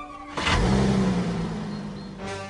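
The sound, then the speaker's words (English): A new Volkswagen Passat's engine, started remotely with a key fob, cranks and turns over, then revs up loudly with a rising mechanical roar before settling into a steady idle, with no voices. “We then see in the kitchen the father uses his key fob that allows you to start your car remotely.”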